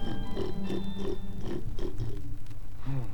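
pig grunting

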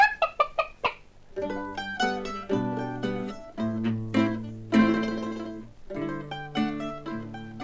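hen clucking

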